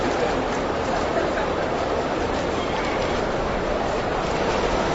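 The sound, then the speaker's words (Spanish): A dense, steady wash of crowd noise fills Atocha train station in Madrid, Spain, at 7 in the morning rush hour, crowded with students, workers, Spaniards and immigrants, with many overlapping footsteps and indistinct murmuring voices, continuous and fairly loud throughout. “Madrid, hora pico. Las estaciones de trenes están llenas de estudiantes, trabajadores, españoles, inmigrantes.”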